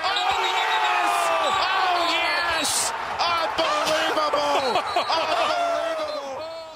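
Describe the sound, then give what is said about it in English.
In a Gonzaga versus UCLA game, a last-second shot from a few feet short of half court thuds off the backboard and drops through the hoop amid several sharp bounces, all under a loud, continuous wash of crowd voices and shoe squeaks in a big indoor arena. “It bounces off the backboard, slams into the inside of the room, and drops through the hoop.”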